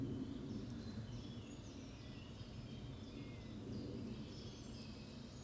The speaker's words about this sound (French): Depuis le début, je m'imagine enregistrer ça. Le silence de cette forêt-ci. Juste à côté de la ville.